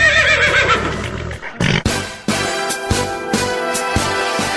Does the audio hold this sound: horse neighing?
yes